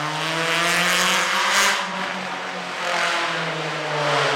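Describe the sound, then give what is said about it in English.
A loud motorcycle engine in the city, heard from a garden, drones and revs steadily for several seconds, its harmonic roar continuous, with a brief surge in pitch midway and no voices. “Yes, in the garden you can hear everything, trucks, airplanes, loud motorcycles”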